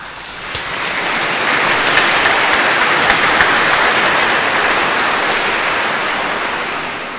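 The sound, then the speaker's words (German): A large audience at a church service claps steadily for the Kammerchor am Käppele choir, the organist and the instrumentalists, a dense, sustained wash of applause that swells quickly and holds at full strength for several seconds without any voices. “Ich danke dem Kammerchor am Käppele mit seinem Dirigenten, Chorleiter Herrn Johannes Krötzner, Dieser Beifall gilt natürlich auch dem Organisten und den Instrumentalisten und der Orgelspieler Herr Klopf.”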